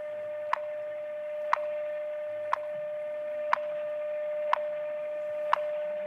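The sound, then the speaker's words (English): A steady telephone tone hums continuously while sharp ticks land exactly once per second, six evenly spaced clicks over the line with no voices: a telephone time-signal number in Denver, Colorado. “Every one of these ticks is a second.”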